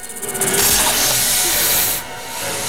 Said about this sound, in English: Suddenly, the snake rattles its tail. It launches itself at the terrified boy, but Solo catches it by the throat in midair.